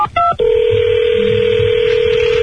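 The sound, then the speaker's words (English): A couple of quick telephone keypad beeps sound in rapid succession as a birthday phone line number is dialed, then a single steady electronic tone holds loud and unbroken until the end. No one speaks. “Let me try the Harry Potter number one more time.”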